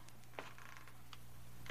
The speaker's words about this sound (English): I heard the feet coming up the stairs, or was it just the creaking of the old house?